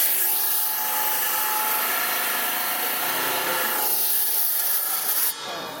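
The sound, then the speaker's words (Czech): A saw grinds steadily through stone, cutting a stone open, with a loud, continuous, hissing rasp that holds an even level for several seconds, then cuts off abruptly just before the end. No one speaks. “když někdo takovej tady mu rozříznu, tak mu zadarmo dám ještě jiný”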